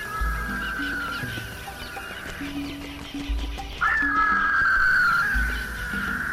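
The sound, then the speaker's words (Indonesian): Duck and goose calls honk and warble steadily over a backdrop of rhythmic music, fairly loud, growing stronger toward the end with no one speaking. “Ah, itu kan bebek dan angsa sahabatku.”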